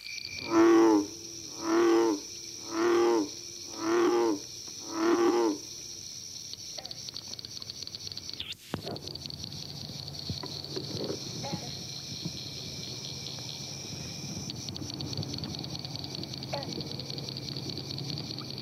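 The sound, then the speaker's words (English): Five deep, resonant bullfrog calls boom out at a steady pace, loud, over a continuous high-pitched background chorus of northern cricket frogs and bronze frogs that carries on alone after the calls stop. “It is heard here with a background chorus of northern cricket frogs and bronze frogs.”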